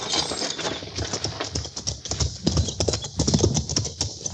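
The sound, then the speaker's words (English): Hooves clatter in a quick, uneven clip-clop as several horses move, the sharp knocks overlapping steadily with no voices. “Get on off those horses.”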